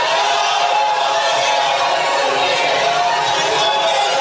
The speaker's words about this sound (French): Vous n'avez pas à frapper les pupitres, la parole est au gouvernement.